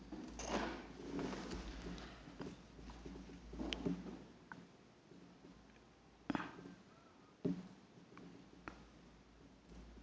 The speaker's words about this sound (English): Okay. Let's wait for Secretariat to finish the typing.